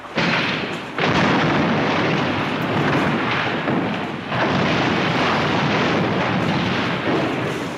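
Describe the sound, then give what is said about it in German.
Loud demolition blasts as a chimney and a house are blown up with explosives after a 3, 2, 1 countdown: a heavy boom, then a second burst a few seconds later, each followed by a sustained roaring rumble of collapsing debris that fills the whole stretch, with no voices. “Heute werden ein Kamin und das Haus da drüben gesprengt.”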